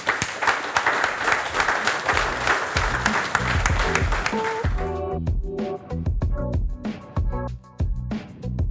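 An audience applauds steadily and fairly loudly for about five seconds after a lecture as the speaker goes back to his seat, then the clapping gives way to rhythmic music with a regular thumping beat.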